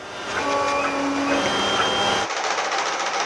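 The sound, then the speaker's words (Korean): A 3D printer or sewing machine at the West End library in Washington, DC, available for local residents to use, runs with a steady mechanical whir and faint whining tones, then the sound abruptly shifts to a thinner hiss near the end. “웨스트엔드 도서관에선 3차원 프린터나 재봉틀 등도 갖춰놓고 지역 주민들의 필요에 따라 마음껏 사용할 수 있는데요.”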